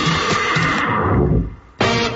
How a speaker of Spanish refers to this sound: Un caballo puede sonar muy bien.